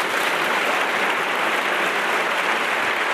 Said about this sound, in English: Wow. The Reagan Republicans are clapping. Let's play number 13. Sound like a golf clap to me. I didn't hear any woot-woots out there.